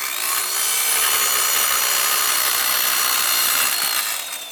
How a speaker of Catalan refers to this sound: És probable que dilluns el so d'obres no sigui tan estrident com el que acabem de sentir